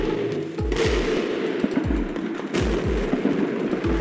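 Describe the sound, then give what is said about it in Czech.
Repeated gunshots and heavy booming artillery blasts during the military attack on La Moneda presidential palace in Chile, bombed by Hawker Hunter jets, echo over a constant rumbling din, with several bursts of firing at irregular intervals and a couple of louder explosions. “Přidává se dělostřelectvo, ozývají se výbuchy a střelba.”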